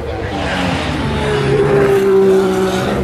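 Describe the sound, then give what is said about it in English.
An Alpine race car's engine drones loudly and steadily, its note rising and swelling as the car draws near and sweeps past, with a bright whine peaking just before the end. “Alpine still running, going past me.”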